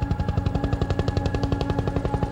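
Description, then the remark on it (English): A voice mimics the muffled rotor of a helicopter flying at 5,000 feet, a fast, steady run of low, throbbing chops repeating evenly for a couple of seconds at moderate loudness, with no other talk. “The noise of the chopper was going like this, like a muffled sound.”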